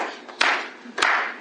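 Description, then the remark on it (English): Two sharp hand claps spaced about half a second apart, each with a bright crack and a short ringing tail, demonstrating a style of clapping in church. No talking. “White folk don't clap like that. They go like this.”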